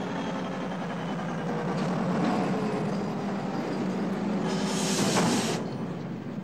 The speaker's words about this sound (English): The train moves across a bridge high over a gorge.